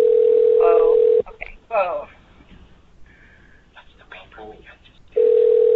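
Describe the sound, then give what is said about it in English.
A steady, loud telephone dial tone on the call line hums for about a second, cuts out while people talk faintly over a noisy line, then returns at full strength near the end. “Somebody else wants their phone going.”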